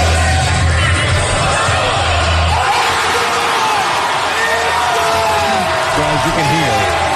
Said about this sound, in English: So A-Rod then goes to half court representing a student. If he makes a half court shot, the kid wins 10 grand. It's just the natural sound of the cheering.